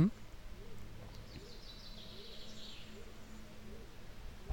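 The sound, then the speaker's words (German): Small birds chirp faintly, their thin high calls scattered over a steady low background hum outdoors, with no one speaking. “Jetzt hört man Vöglein zwitschern, das wird immer mehr.”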